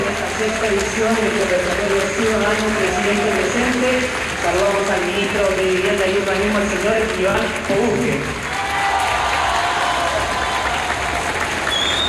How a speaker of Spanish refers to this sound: Hay aplausos por el presidente y una ovación a Iván Poduje